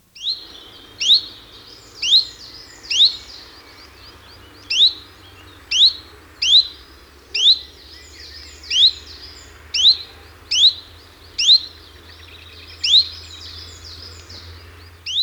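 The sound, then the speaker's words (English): A chiffchaff sings its repetitive two-note song, a steady series of about fourteen bright, clipped chirps at an even pace, clear over a faint low rumble. “The chiffchaff is almost monosyllabic and distinctly cheerful and forceful.”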